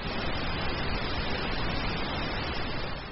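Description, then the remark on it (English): A steady, even hiss of pink noise fills the whole stretch without pause, a soft rushing wash that is fuller and less sharp than white noise, with no voices or other sounds. “And this is an example of pink noise.”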